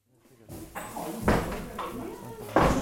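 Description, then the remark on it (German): The door of a sparse stone house being opened, with a couple of sharp knocks and rattles as it moves, set against a low, steady background hum. “öffnet die Tür zu seinem kargen Steinhaus.”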